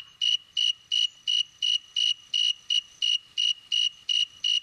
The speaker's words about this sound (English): But first, I wanted to play some audio that we have. Here's a snowy tree cricket. Let's give a listen.